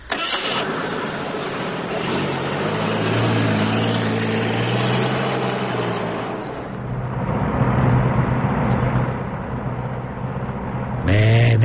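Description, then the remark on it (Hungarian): A car engine runs steadily, its low hum rising and shifting in pitch as the vehicle drives along, with a brief burst near the end. “Ne taposd agyon a gázpedál, csak nyugvíson.”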